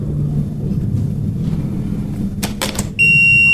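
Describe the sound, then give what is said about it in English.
A few quick clicks, then a quiz buzzer sounds as the UCSD team buzzes in during round six of the College Natural History Bowl, a loud, steady, bright electronic tone that holds to the end over a low background rumble. “UCSD, if you guys want to buzz in and give your names.”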